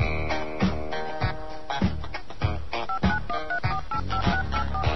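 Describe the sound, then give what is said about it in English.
A rapid run of short touch-tone keypad beeps, about a half-dozen evenly spaced presses entering a prepaid calling card number for a Sprint phone call, partly buried under loud, busy background music with heavy drum hits. “Please enter your prepaid card number.”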